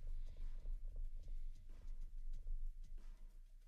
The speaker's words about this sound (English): It was me. It was this. I hear a cat like purring. Oh, this is me. Oh, drumming my fingers very quickly.